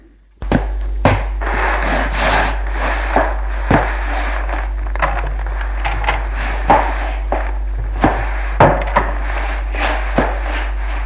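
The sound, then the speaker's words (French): A dead body is dragged across a wooden floor and out of a room: a steady, rough scraping rumble broken by about a dozen irregular dull thumps, fairly loud, with no voices. “Puis, tire le corps pour le sortir de la pièce.”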